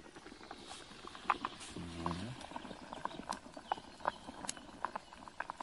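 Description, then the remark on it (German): A pot of pasta boiling at a rolling boil over a wood fire, with irregular bubbling pops and clicks over a steady low hiss and a brief low hum partway through. “Es kocht jetzt gerade richtig schön.”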